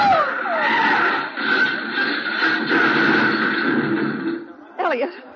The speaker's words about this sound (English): Leo, what's the matter with him, the way he's driving? Well, he's going to crash.